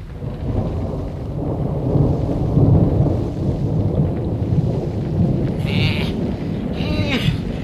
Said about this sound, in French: La nuit vint, et un terrible orage éclata.